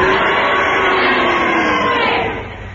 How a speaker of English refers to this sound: If you agree with Kenneth Williams' challenge, will you cheer? And if you disagree, will you boo? And you all do it together now.